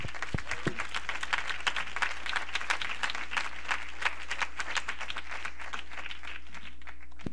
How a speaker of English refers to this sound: Let's clap our hands in Jesus' name.